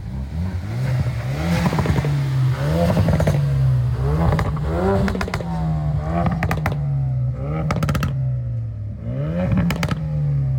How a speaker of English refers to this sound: We have quite the melting pot of cars here, but we are going to do a rev battle to see which one sounds the best. I apologize, it is a little bit windy. First, we will start with the RS.